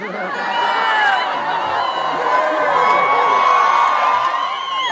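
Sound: audience cheering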